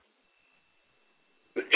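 After a long stretch of near silence, a single sharp cough bursts out at the very end, loud and brief with a rough, breathy texture.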